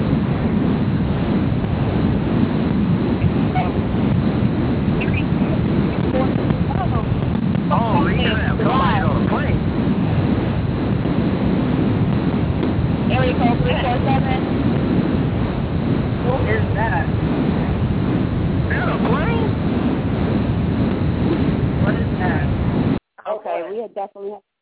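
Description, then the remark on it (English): A constant, loud roar of first-class airplane cabin noise on a flight to Minnesota comes through a narrow, tinny phone line, with faint muffled voices buried in it, before cutting off abruptly near the end. “Somebody was on the airplane first class coming to Minnesota to fuck with me, right?”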